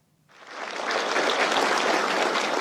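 Applause from executives of China's top tech firms as Xi Jinping and other top officials enter a huge meeting room in Beijing's Great Hall of the People. The clapping rises quickly from silence into a steady, dense wash that holds at full volume, with no voices heard.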